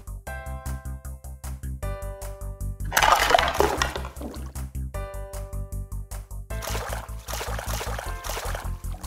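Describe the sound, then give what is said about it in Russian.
Bursts of water splashing and sloshing as vegetables are rinsed to make soup come in two short stretches over a steady, rhythmic musical background; nobody speaks. “Для начала надо помыть овощи.”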